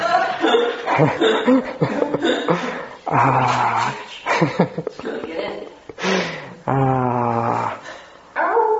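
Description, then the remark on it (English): A female dog barks outside in several loud bursts, some short and some drawn out into longer, whining yelps, with brief pauses between them. “Is your dog outside? She is.”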